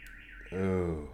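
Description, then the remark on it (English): The alarm of a parked car outside blares at random with no one touching it, cycling from a warbling high-pitched whoop into a steady, buzzy horn-like tone, fairly loud and continuous. “the car alarm just ruined the scene”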